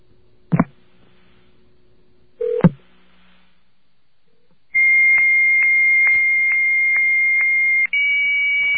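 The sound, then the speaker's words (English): Two sharp clicks, then a steady high 9600 bps high-speed modem handshake tone interrupted by a regular series of faint clicks, shifting to a second tone near the end. No voices. “But you'll know right away if you hear this that this is a high-speed modem.”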